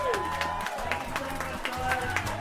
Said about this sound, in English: You guys have been the fucking best crowd ever. Thank you so much. Give yourselves a round of applause, and also give your headliner